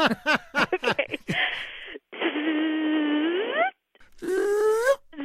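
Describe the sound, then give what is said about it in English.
A voice mimics a car's hissing whistle: a breathy hiss with a steady whistling tone that rises at the end, then a shorter second burst after a pause, following a few quick vocal sounds. “It sounds like a hiss with somebody, you know, kind of whistling behind it.”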